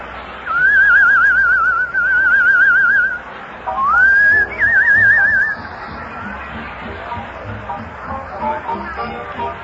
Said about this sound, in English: Come on, I'll whistle a little number. I heard a little number in France this summer.